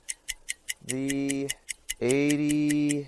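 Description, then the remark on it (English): A game clock, just started, ticks steadily at a quick, even pace, with two long, droning buzzer-like tones sounding over the ticking partway through. “Preach is going to start the clock”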